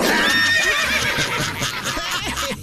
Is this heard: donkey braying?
yes